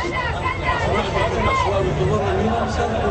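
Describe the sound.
A crowd of protesters marching past, a dense, steady roar of many overlapping voices shouting and chattering at once, loud and unbroken throughout.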